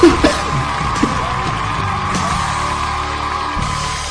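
An audience claps and cheers for a performer who wrote an original song, in a steady, dense wash of noise, with a few louder shouts and whoops standing out near the start before the sound holds evenly to the end.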